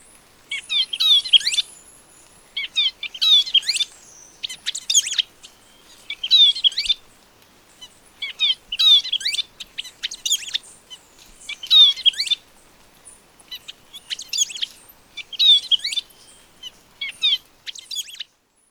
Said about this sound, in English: Here is a male chestnut-breasted Chlorophonia in Ecuador.